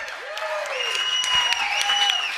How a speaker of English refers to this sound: So round of applause.